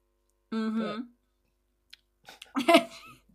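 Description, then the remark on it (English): A short voiced hum, then a faint click, then one loud, breathy slurp of someone sipping coffee, with no talk around it. “Sip that coffee.”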